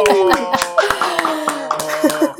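crowd, studio audience applause

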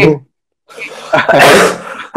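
human body sound, coughing fit

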